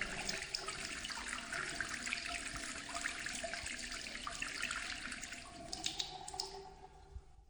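running water

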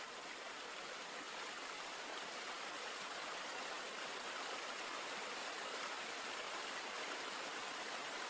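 flowing mountain river water

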